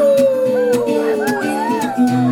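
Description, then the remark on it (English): Several voices imitate dogs howling together in a song about being little puppies, drawn-out wavering wails that rise and slide, loud over a steady musical backing. “And howl.”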